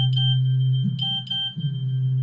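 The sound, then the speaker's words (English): A steady electronic censor bleep holds loud and unbroken for about two seconds, covering a word that could not be said on air, with a low hum and a few brief clicks and flutters beneath it. “I couldn't say that over the air, so we had to beep it out.”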